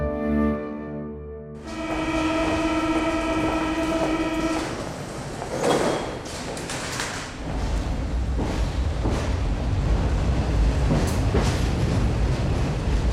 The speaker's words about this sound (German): Mit der U-Bahn.